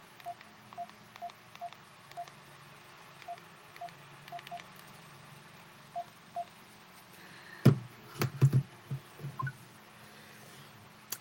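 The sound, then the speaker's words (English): A series of short electronic keypad beeps from a house phone with tactile buttons being dialed, pressed at an uneven pace, followed by a few louder clunky handling knocks near the end, with a faint hum underneath. “It's kind of hard for me dialing on the telephone keypad on the iPhone”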